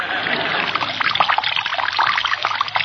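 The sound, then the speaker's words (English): Water is poured from a jug through a rolled-up newspaper funnel into a sleeping man's ear, trickling and splashing steadily for a few seconds, a continuous bright pouring sound with small bubbling spatters, no voices. “I'll roll the newspaper up into a funnel. I'll place the pointed end in his ear. Now, where's the water jug?”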